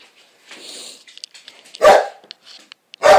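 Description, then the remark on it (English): Two loud, sharp dog barks ring out, spaced about a second apart, with quieter scuffling, panting and small yips filling the gaps between them, from several dogs in a house. “A nut house full of nutty dogs.”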